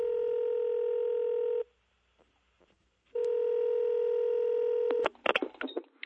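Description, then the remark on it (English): Telephone tones: two long, steady electronic tones separated by a short silence, followed by a quick scatter of brief beeps and clicks, heard alone with no talking. “Maybe it ended with a phone call.”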